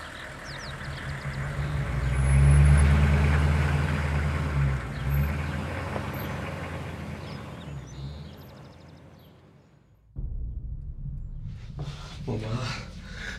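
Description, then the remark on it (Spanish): A garbage truck's heavy engine rumbles loudly, then slowly fades as it pulls away. After an abrupt cut, quieter background noise with faint voices follows. “Echar a los cuerpos al camión de la basura, mamá.”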